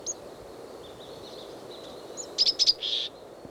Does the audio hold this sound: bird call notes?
yes